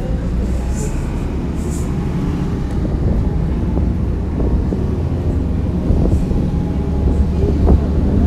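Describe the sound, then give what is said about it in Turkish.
A city bus, now less full than before, drives along a route without traffic with a steady, loud low engine rumble, interior rattles and occasional small knocks, and muffled indistinct voices mixed into the noise. “Biraz önce daha doluydu otobüsümüz.”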